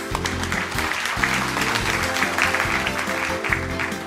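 An audience at an investor relations event in Osaka applauds steadily for several seconds to welcome the president of Seika Sangyo, a dense wash of clapping that holds its level throughout, with background music playing underneath.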